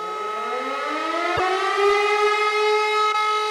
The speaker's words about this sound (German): Die Bomben-Sirenen, lauf!